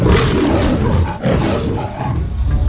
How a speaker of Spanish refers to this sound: donde se dice que el número de rugidos que lanza el león delata dicha información. Es decir, si hay dos rugidos, es de bajo presupuesto. Tres rugidos, estamos ante una gran producción.